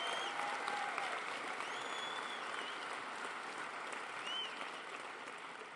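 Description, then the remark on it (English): A large audience applauds steadily for head coach Mike Smith, three-time coach of the year in the National Football League, a dense wash of clapping that holds at an even, fairly loud level throughout with a few faint whistles rising above it. “I know this is a while ago, but the three-time coach of the year in the National Football League, Mike Smith, he deserves a huge round of applause.”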